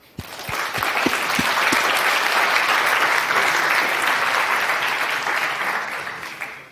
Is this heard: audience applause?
yes